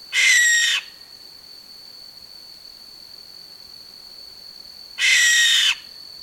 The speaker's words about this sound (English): Next up, we're going to hear about barn owls.